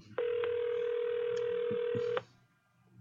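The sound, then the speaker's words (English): A telephone ringing tone as a call is placed: a single steady electronic burst lasting about two seconds, clear, followed by quiet line hiss. No one speaks. “Okay, let's give her a call.”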